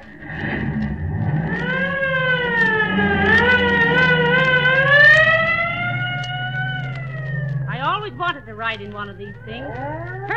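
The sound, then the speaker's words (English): A police siren wails up and down over a low, rumbling engine, swelling loud before easing off, then breaking into a quicker warbling pattern as the car pulls away. “Here's the squad car here. Get in. All right, buddy, let her go.”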